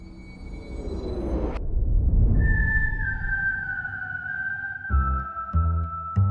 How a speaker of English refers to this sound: Whistling evokes pleasant images. A quiet country lane, a sailor on a sun-bleached deck, a walk downtown at the beginning of spring.